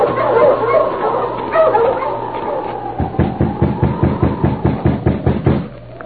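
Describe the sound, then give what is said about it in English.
A team of sled dogs, halted by their driver in the early morning at an isolated spot surrounded by birch trees, barks in a quick, steady run of sharp, repeated yaps after a stretch of low wind-like rushing. “A week passed, and then, in the early morning at an isolated spot surrounded by birch trees, a driver halted his team of dogs.”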